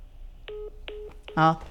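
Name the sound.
telephone tones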